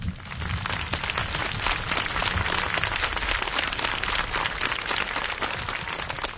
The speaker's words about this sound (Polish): Podziękujemy mu oklaskami.